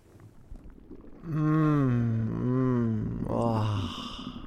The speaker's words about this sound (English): You should hear my belly now. Now that it's gurgling and digesting those chicken tenders.